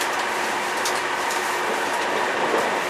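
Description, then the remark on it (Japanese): A steady, loud rolling roar of the Starlight Ueno, a special train bound for Ueno with its next stop at Takasaki, running on rails, heard from inside a carriage, with a constant hiss and faint rhythmic clicks from the wheels. No one speaks. “この列車は臨時列車のスターライト上野号上野行きです。”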